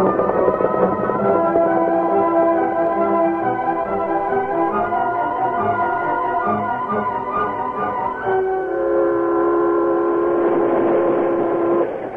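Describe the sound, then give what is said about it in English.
A steam train rolls along the rails with a steady, loud rumble, while sustained whistle-like tones ring out over the top for several seconds, with no voices. “About 40 minutes after the train left Monument City”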